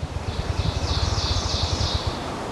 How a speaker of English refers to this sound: And then there's this bird over here. It's an ovenbird singing on the forest floor. And the mnemonic that we read in the field guides is a teacher, teacher, teacher, teacher. It's a crescendo. It's just shattering.